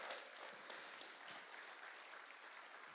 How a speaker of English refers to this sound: Come on, give the Lord a clap one more time for his word.